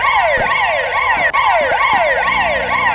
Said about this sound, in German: Es vergeht kaum ein Tag in Gaza ohne Schüsse oder Alarmanlagen. Ambulanzsirenen und Schreie füllen die engen Gassen und Straßen akustisch.